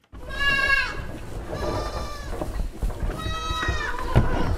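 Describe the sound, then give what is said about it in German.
Several Thuringian Forest goats bleat in the spacious barn of the organic goat farm Weiße Hube in the Odenwald, Hesse, which houses about 200 of them: three long wavering calls overlap with quieter bleats, over a steady low rumble of stall noise. No one speaks. “Es riecht nach frischem Heu und etwas strenger nach den rund 200 Thüringer Waldziegen, die hier untergebracht sind.”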